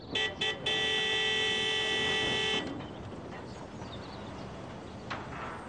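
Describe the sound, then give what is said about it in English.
A car horn honks twice in quick short toots, then blares in one long, loud sustained blast before cutting off, leaving steady outdoor background noise. “Why do you keep honking your horn?”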